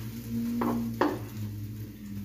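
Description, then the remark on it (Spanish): Food fries in a pan with a steady, soft sizzling hiss, broken by two quick clattering bursts early on. A low, constant hum runs underneath, and nobody speaks. “Bien remojaditos. Y al sartén.”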